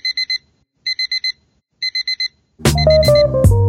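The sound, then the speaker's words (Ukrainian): A digital alarm clock beeps in quick bursts of four, repeated three times at a steady pace, before loud music with heavy drums abruptly takes over. “Будильник лунає для тих, хто прокинувся в сні.”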